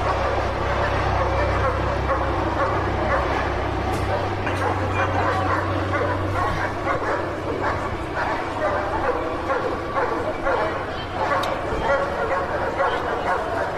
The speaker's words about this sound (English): I'm on the top floor of Marks and Spencers. I can see in the windows police running like crazy down the street. This is unbelievable. You can hear the police dogs now.